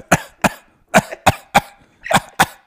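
coughing

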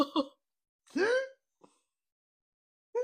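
hiccup

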